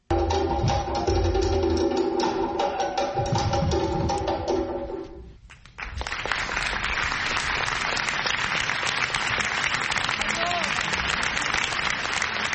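Music with steady tones plays for about five seconds and briefly drops away, then a crowd at the Avignon Festival in France breaks into loud, dense applause and cheering for two Burkinabé dancers who have just presented their choreography on stage. The applause continues unbroken to the end.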